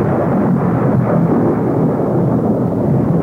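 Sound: thunderstorm with crashing thunder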